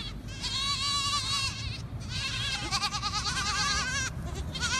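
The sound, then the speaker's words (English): Young goats, 19 kids running out as a gate opens, followed by their guardian Maremma sheepdogs, bleat repeatedly and overlapping, a noisy chorus of high wavering cries, with scuffling movement underneath and no one talking. “every one of his 19 kids come running, followed by their guardian Maremma sheepdogs, Ranger and Luna.”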